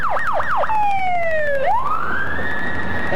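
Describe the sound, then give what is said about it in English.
A police car siren yelps rapidly, then shifts to a long falling wail that swoops back up and holds, loud with traffic rumble beneath, as the squad car passes. “Must be a police chase.”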